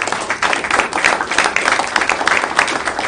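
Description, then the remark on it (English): People applaud Steve Taylor for winning the county supervisor election, a dense, even patter of many hands clapping at once for a few seconds with no voices standing out. “This is not on the agenda, but I think also a nice round of applause for Steve Taylor for winning the county supervisor election.”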